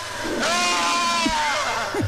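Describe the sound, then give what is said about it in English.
In a scene from the Evil Dead horror films, the possessed character Ash lets out a single long, strained scream, loud, holding a high wavering pitch for over a second before trailing off into a few short breathy sounds. “That was a good scream by old Ashley Williams.”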